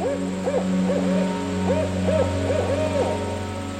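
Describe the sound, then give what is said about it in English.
A barred owl hoots in a quick, uneven series of arching, wavering calls, clear over a steady low background hum with no talking. “I was walking one night and saw an adult barred owl and was absolutely stunned because I hadn't ever really seen one as close as this.”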